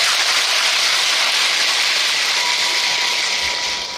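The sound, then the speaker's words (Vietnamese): An audience gives a steady round of applause, dense overlapping clapping that stays loud for about four seconds and eases slightly at the very end, with no voices. “Nếu các bạn quan hệ với điều đó thì cho một tràng vỗ tay để cảm nhận.”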